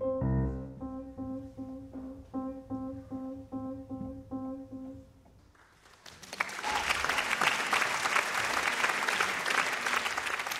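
Piano notes ring out in a repeated pattern and fade, then a concert audience bursts into steady, dense applause that fills the remaining seconds.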